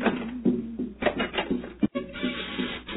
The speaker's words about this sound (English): Why not knock on the door again